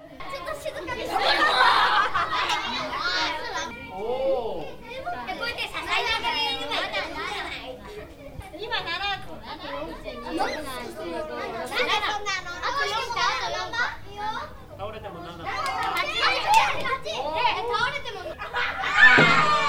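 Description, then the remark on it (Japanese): Nearly 20 young children chatter and call out excitedly around a table during a pumpkin-ornament stacking contest, the Kabocha Tsumitsumi King, each taking a turn; their high voices overlap continuously with bursts of giggling throughout. “20人近い子どもたちがテーブルを囲んでスタンバイ、一人ずつチャレンジします。”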